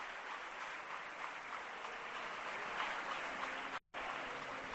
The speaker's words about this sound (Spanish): tarde de contrastes en este momento en Sevilla. No sé si os llegan, Víctor, los aplausos desde el interior.